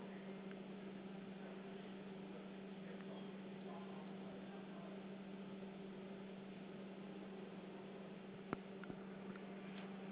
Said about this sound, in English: And that is a dishwasher, yes. Yeah, Bosch dishwasher.